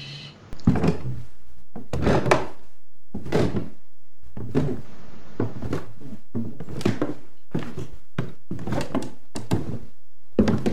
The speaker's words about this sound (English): She closes the door and backs into the shadows of the house.